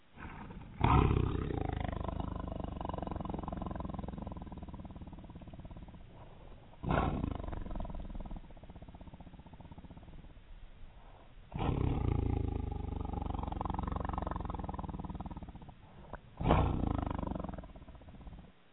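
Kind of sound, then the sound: animal, tiger growling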